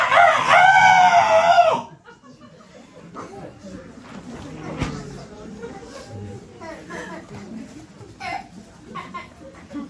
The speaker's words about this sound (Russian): Ну что они, что он кукарекает, зачем? Он радуется солнцу.